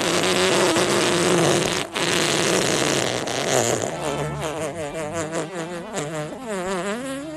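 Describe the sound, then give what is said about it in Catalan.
A long, loud fart sound plays on its own, a buzzing, raspy blast that wobbles and flutters in pitch, sputtering toward the end across several seconds. “Sí, jo vull acabar perquè aquest pet m'ha deixat mal de panxa.”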